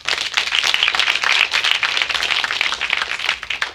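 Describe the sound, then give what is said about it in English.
A crowd applauds steadily in answer to a question about how many went trick-or-treating as children, with dense, crackling clapping from many hands that holds at a fairly loud, even level for several seconds. No voices are heard over it. “By round of applause, how many people in here as children yourselves went trick-or-treating?”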